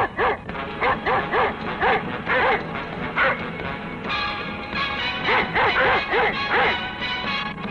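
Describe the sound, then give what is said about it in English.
A dog in a back room barks loudly and repeatedly in quick bursts, a steady string of sharp woofs with only brief pauses, continuing almost without letup from start to finish. “It's worse than this fucked up music and the dog barking in the back room!”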